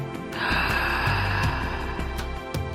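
Deep, loud circular breathing, a continuous airy rush flowing fully in and out with no pause between breaths, over a soft steady musical drone.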